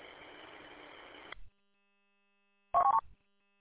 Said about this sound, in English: Well, I got a phone call coming in here, so I want to let you go.